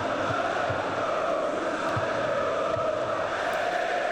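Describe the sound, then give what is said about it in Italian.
A large stadium crowd at a Parma–Lazio football match applauds and roars for defender Ghila after he beats Pellegrino to a long ball, in a steady, dense wash of noise that fills the whole stretch without pause, with no clear voices standing out. “era in netto vantaggio Ghila, si prende anche gli applausi, ma qui sarebbe stato clamoroso se si fosse fatto bruciare da Pellegrino, che non è lento ma neanche un centometrista.”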